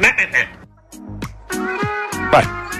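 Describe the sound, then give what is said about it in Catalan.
A man imitates a cat's meows as a call meaning food, giving a few quick clipped mews and then several longer, sliding, drawn-out meow calls with no other talk. “Per tant, si teniu un gat a casa, deixeu que escolti això a veure si reacciona a la crida per menjar.”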